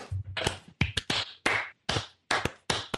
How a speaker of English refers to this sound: Should I be clapping? I think we should.